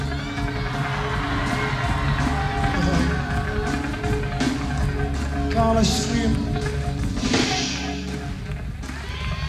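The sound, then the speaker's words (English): A large audience claps and cheers loudly and steadily, a dense roar of applause with shouts rising and falling throughout, no pause in the noise. “Oh, don't waste your energy with that clapping.”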